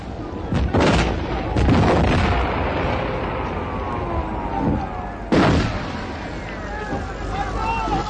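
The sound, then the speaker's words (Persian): Several loud, booming explosions go off, two close together near the start and another sharp blast later, each trailing into a continuous rumbling din of battle. “صادق پیاده میشه، با شنیدن صدای انفجار کمالی سرش رو روی فرمون میزنه.”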